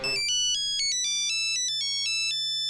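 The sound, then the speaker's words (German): A mobile phone ringtone plays a quick, bright electronic melody of stepping tones, clear, with no one speaking. “Die Klingel- und SMS-Töne, welche zunächst noch aus monotonem Gebimmel bestanden, entwickelten sich rasant.”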